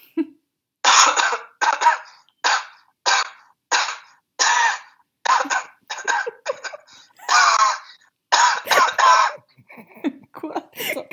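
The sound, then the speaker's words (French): A rapid series of sharp, loud coughs delivered in a deliberate rhythm, their timing and pitch shaped to trace out the melody of La Marseillaise, the French national anthem, followed by a few scattered smaller coughs. “C'était une toux patriote, c'était la Marseillaise, mais tant pis.”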